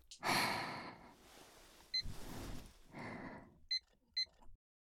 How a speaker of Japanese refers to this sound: あと一分我慢してくださいね。ちゃんとタイマーをつけますから。